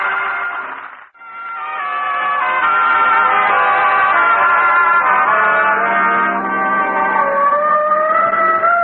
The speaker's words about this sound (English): Oh, the siren. No, that's on our car. I put it on this morning.